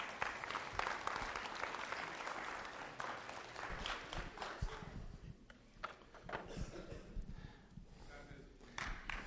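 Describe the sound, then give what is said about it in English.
Sustained audience applause, dense and crackling for several seconds, encourages a woman invited up to speak, mixed with some indistinct voices and cheers, steady throughout and tapering only slightly toward the end. “So can we give her a round of applause to encourage her?”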